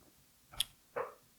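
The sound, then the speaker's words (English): Someone takes a drink of a Hoplark 0.0 non-alcoholic beverage: a short, clicky sip followed a moment later by a soft, wet gulp as it's swallowed. Two brief sounds, no talking. “I realized a few episodes ago, like, how loud, like, me drinking and swallowing stuff pause on this show is, and I apologize, but I'm not editing it out at all.”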